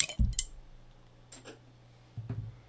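A beer bottle is popped open for a beer tasting review: a sharp metallic snap and glassy clink, then a brief soft hiss and a low knock, quiet with no one talking.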